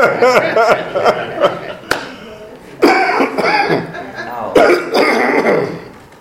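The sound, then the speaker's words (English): A person loudly clears their throat several times in quick succession, with rough coughing bursts and raspy hacking sounds, with voice-like harmonics mixed into the noisy rasps. “Let me clear my throat.”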